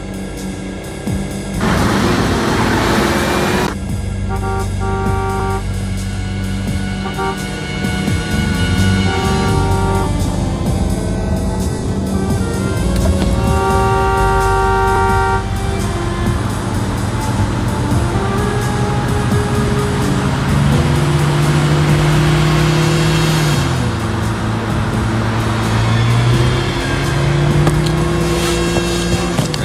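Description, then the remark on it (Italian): A powerful 1400-horsepower car engine drones loudly and steadily, its pitch climbing and dipping as it revs and drives, with a brief roaring burst near the start and no voices. “Caso dove un gioiello del genere, 1400 cavalli di potenza, ti ripaga.”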